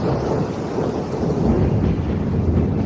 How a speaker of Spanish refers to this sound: Viernes, pasado por agua en gran parte de España y con sonido de tormenta.